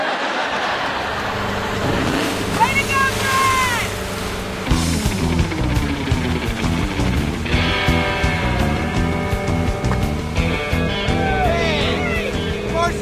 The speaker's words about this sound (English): I borrowed my buddy Tony's boat. It's got that inboard big block V8.